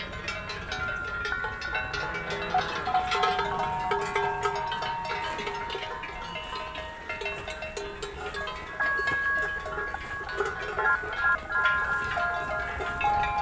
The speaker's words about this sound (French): Tout le troupeau de vaches gasconnes mélangées avec des chevaux remonte sur les crêtes.